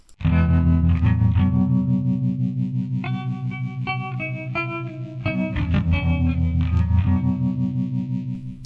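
A song plays steadily throughout, with a thick, effects-laden guitar sound, chorus and distortion, over a sustained low drone and shifting melodic notes; no one speaks.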